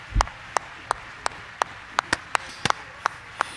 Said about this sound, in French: L'audience s'est levée pour applaudir.